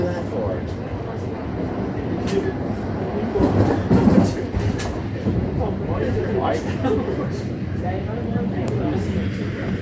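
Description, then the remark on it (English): A passenger train arriving at Summer Hill Station rolls along with a steady low rumble, scattered metallic clacks and squeaks, and a brief louder surge midway; indistinct voices murmur beneath the noise. “Arriving at Summer Hill, Summer Hill Station. Doors will open on the right.”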